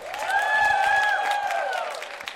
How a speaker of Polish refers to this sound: Więc tak, dla jedynki czerwonej brawa. Dla szóstki zielonej brawa. Dla szóstki czerwonej brawa.